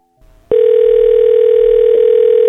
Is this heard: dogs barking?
no